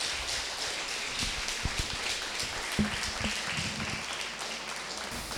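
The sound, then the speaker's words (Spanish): An audience applauds steadily, a dense crackling wash of many hands clapping at an even level, with a few faint murmurs and low thumps underneath, lasting about five seconds. “Así que un fuertísimo aplauso para Eugenio Previgliano.”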